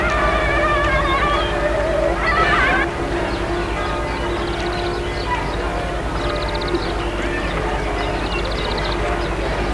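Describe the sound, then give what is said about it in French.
Church bells ring with sustained, overlapping tones that linger and fade, set against a dense, busy background of steady noise and faint rhythmic clatter. “Les cloches sonnent.”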